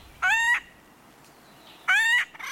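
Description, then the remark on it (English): Two loud, raucous acorn woodpecker calls, each a short nasal burst, separated by a pause of over a second, with no voices and little background noise. “Acorn woodpeckers are extremely social.”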